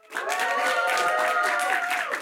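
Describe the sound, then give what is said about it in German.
A packed audience of about 270 people crammed into a very small cinema at the CO Pop Convention applauds and cheers, dense clapping mixed with sustained whoops and shouting voices, staying loud and steady throughout after a quick swell at the start. “Ja, so klingt das, wenn 270 Leute in so ein ganz kleines Kino gepfercht werden.”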